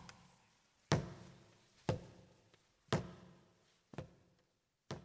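A blind man's walking stick taps on a road: five sharp, hard knocks spaced evenly about a second apart, each ringing briefly, with no voices.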